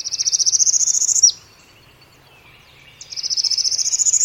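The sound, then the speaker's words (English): A northern parula sings twice on a bayou in the morning, among cypress trees draped with Spanish moss: a high, buzzy, rapid trill that climbs steadily in pitch and ends abruptly, separated by a pause of quiet. The song is loud and clear, with no voices. “A northern parula, some say parula, still others perula, sings its rapid rising trill.”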